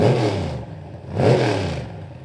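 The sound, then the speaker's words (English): The engine of the Linwood Bilbo classic dragster revs hard twice at a drag strip during a nostalgia drag race event, each loud, rasping blip surging up in pitch and then dropping back to a rough, rumbling idle. Nobody speaks. “You gotta love that sound here at the drag strip.”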